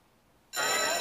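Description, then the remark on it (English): After a half-second of near silence, a school bell at a school abruptly starts ringing, loud and continuous, with a bright, metallic, high-pitched clang that holds steady to the end. “As the bell rings, all the previously frozen individuals come to life, continuing on their way toward school.”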